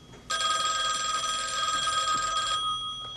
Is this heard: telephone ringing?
yes